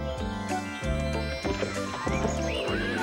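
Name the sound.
horse neighing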